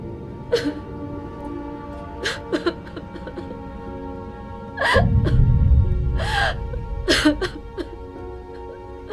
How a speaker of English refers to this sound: He turns around at the sound of sobbing. He spots an Asian woman sitting in a storeroom.